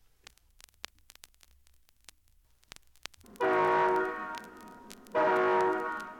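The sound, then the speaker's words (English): A Great Northern passenger train's horn sounds two long, loud, chord-like blasts, the first a bit longer, after a few seconds of faint scattered clicks and rumble. No one speaks. “All aboard for a great trip on a Great Northern train”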